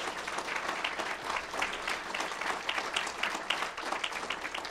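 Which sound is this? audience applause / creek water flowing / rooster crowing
audience applause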